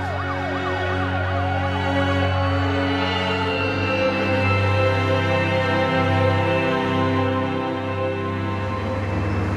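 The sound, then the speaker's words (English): Emergency vehicle sirens wail loudly and continuously, their rising and falling tones overlapping over a steady low engine rumble, with no one speaking. “And here come the blues and twos.”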